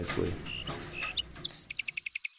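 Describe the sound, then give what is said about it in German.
A song sparrow sings: a few clear, separate whistled notes, then a quick run of evenly spaced, repeated chips forming a bright trill at the end, with no talking. “Manche der Singammern schaffen am Ende kompliziertere Melodien, andere einfachere.”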